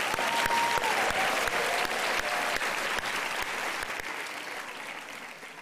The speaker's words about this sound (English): Yes, Sadiq Khan is here. I think he deserves a round of applause.